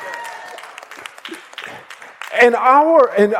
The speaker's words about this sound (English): That's three of you clapping.